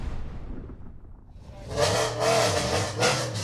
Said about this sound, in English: The sound of engines in the pit lane as we go green for a 20-minute warm-up session.